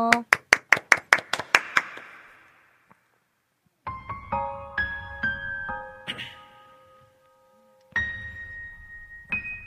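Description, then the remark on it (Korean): A short burst of rhythmic clapping, about nine quick, evenly spaced claps over two seconds, fades out as an audience welcomes a pastor's live song performance; after a brief pause, plucked instrumental music begins. “박수로 청해볼게요.”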